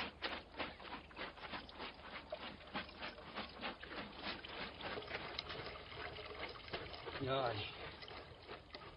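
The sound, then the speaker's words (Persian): Pomegranate juice from pounded pomegranate seeds splashes and pours into large cauldrons in a garden in steady, repeated sloshing bursts, fairly loud, with voices murmuring faintly in the background; the juice is then to be boiled over dry garden firewood. “دیگ ها پر از آب انار شده، حالا نوبت جوشاندن آن با هیزم های خشک باغ است.”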